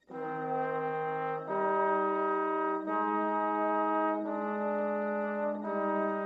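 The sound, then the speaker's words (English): Trombones 1 and 3 play sustained low harmonized notes in a recording, moving through a slow series of five held chords at a steady, fairly loud level with no voices. “So that's trombones 1 and 3.”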